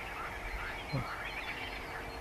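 A single short, raspy frog croak sounds about halfway through, rising briefly over a steady outdoor background hiss with faint birdlike chatter, from frogs warming themselves in the morning sun.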